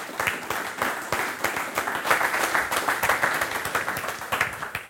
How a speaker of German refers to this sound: Den Applaus haben Sie ja schon genossen, oder? Schaffen vielleicht noch einen.